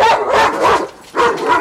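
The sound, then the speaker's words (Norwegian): A police dog, unable to stand still any longer, barks loudly in a quick series of sharp, excited barks, with a brief pause before two more bursts; no one speaks. “Politihunden klarer ikke stå stille lenger.”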